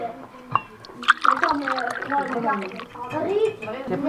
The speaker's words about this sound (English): Though, first, he takes the time to pour a fine kosher Bordeaux from Maison Rothschild. Un petit peu de vin.